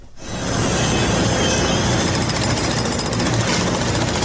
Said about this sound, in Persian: می برند، می کنند و سوراخ می کنند. تقریبا 5 شبانه روز است که صدای ماشین‌آلات و ابزار نیروهای امدادرسان در شمال سوریه و جنوب ترکیه قطع نمی شود.